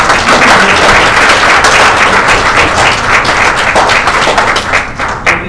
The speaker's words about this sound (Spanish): Levanta tu mano y dale un aplauso al Señor, si tú estás preparado.